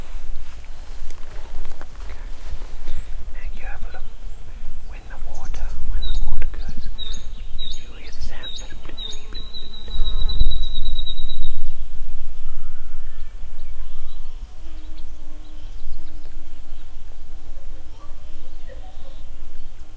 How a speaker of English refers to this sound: There's a little ripple on the water. Yes. And it makes a sound. Do you know what that creature is? No. It's a little frog. Do you want to have a listen to it?